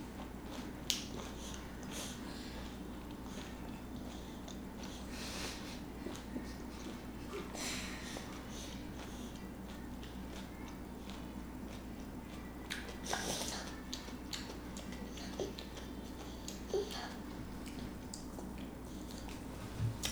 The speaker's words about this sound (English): Ooh, that's a big bite. Bite that. Good. Okay, I'm gonna wait till you're done chewing, and then we'll do the last couple of ones, okay? That's pretty big.